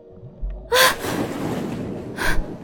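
A sharp, loud gasp for breath, followed by ragged breathing and then a second strong gasping inhale near the end, with no talking, as a man jolts awake from a nightmare.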